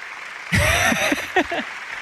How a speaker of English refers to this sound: Very muted. That was just a golf clap? That was like the 16th hole. Someone made like a par putt.